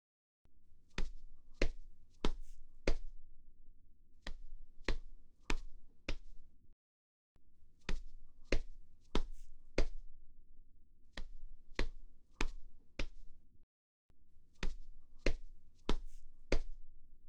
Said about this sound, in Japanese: そうだ、お礼してあげる。そこに座ってて。肩たたきしてあげる。力抜いて楽にしてて。